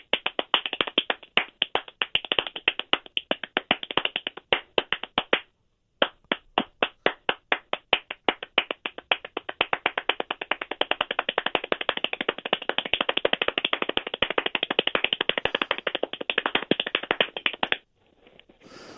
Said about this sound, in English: Wow. I feel weird clapping. Like I am not, I'm so insignificant and I feel ashamed of how I'm clapping.